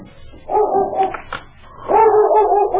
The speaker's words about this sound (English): It was about 1 o'clock in the morning when both lawmen were awakened by King, who'd been sleeping in the snow in front of the door. I'll see why King's barking.